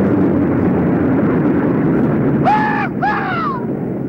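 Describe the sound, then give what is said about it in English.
A steady, heavy propeller-engine drone from a tight formation of 24 C-47 transport planes, sunlight gleaming on their noses, fills the air, joined near the end by two loud, sweeping, screech-like cries over the rumble. “Sunlight gleams on the noses of 24 transport planes flying in tight formation.”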